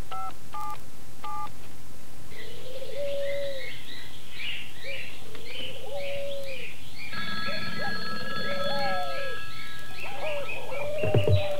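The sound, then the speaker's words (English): Three quick touch-tone beeps as a telephone number is dialed at the start, followed by a steady backdrop of cooing doves and chirping birds. No one speaks. “Must have dialed wrong.”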